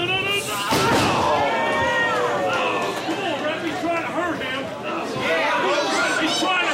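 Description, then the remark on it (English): On a Saturday night at an athletic club on South Broadway, a tall middle-aged Black wrestler in a leather trench coat lifts a man overhead and slams him onto the ring mat with a single heavy thud early on, cutting through the steady murmur and chatter of a lively crowd that continues throughout. “It's Saturday night, and the first thing you see when you walk through the door is a tall middle-aged black wrestler in a leather trench coat lifting some poor guy over his head just before the inevitable.”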